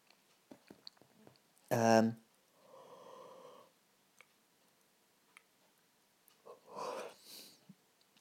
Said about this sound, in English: You can pause it and resume it just by clicking that button.